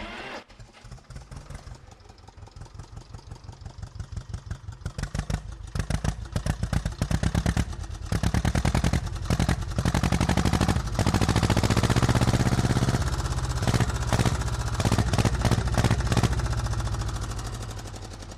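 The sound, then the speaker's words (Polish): A restored motorcycle several decades old, near Strzelce Krajeńskie, Poland, starts on the first try: after a few sputtering pops the engine kicks to life, then settles into a loud, steady, rapid chugging idle that rises and falls with throttle blips, with no voices present. “Ale udaje się za pierwszym razem odpalić i ładnie gada.”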